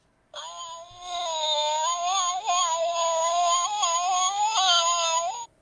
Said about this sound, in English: And the sound of cats fighting.